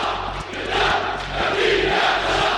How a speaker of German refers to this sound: Dann, an einem ungewöhnlichen Ort hat der syrische Präsident Assad seine erste öffentliche Rede seit Monaten gehalten. Im Opernhaus von Damaskus trat er vor seine Anhänger und wurde gefeiert.